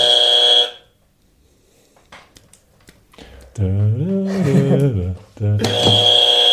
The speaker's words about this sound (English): You're the buzzer guy. I'm the buzzer guy? Buzzer. Okay.